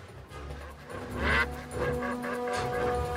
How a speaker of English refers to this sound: Ducks.